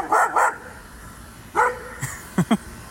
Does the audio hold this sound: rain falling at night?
no